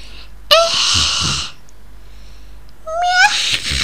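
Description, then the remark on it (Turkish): A cat named Pankek meows twice, its call for food, a long, loud, drawn-out cry followed after a short pause by a second meow that rises in pitch, with no talking. “Böyle aksanlı miyavlıyor yani.”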